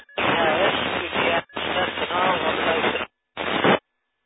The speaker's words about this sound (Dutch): En er was nog een station die is op luisteren. Er zat heel veel in de ruis, viel er ook af en toe af. Kan die nog eventjes herhalen?